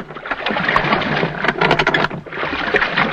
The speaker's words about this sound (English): A lap of the water is created by using a splash box. This is a tank of water with a paddle in it, which is turned slowly to produce the sound of rowing. The squeak of the oar lock was made by using a squeak box